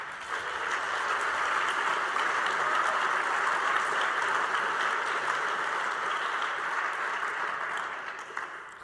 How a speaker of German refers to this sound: Und Sie dürfen das jetzt mit einem Applaus unterstreichen.